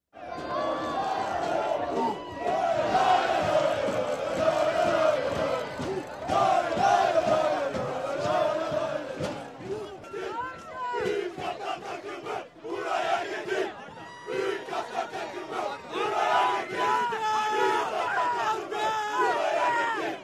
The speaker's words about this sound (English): And what you hear there is the chanting, obviously, but also like banging on and jumping on the metal bleachers that the fans were sitting in. It was pretty raucous.